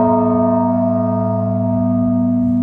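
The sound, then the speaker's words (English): The large bell of Holy Trinity church rings loud, one deep strike whose rich, layered tones hum on steadily without fading, with no voices present; a slow tolling called the Blagovest, rung before the liturgy. “So basically that's just going to be a slow tolling of the large bell probably once a minute.”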